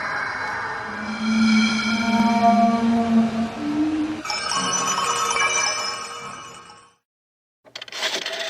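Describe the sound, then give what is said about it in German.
A telephone rings loudly and steadily for several seconds with a bright, shrill tone, falls briefly silent, then starts another ring. No one speaks. “Peter befindet sich am Telefonapparat.”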